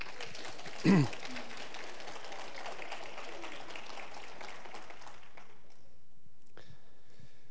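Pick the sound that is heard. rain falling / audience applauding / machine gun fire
audience applauding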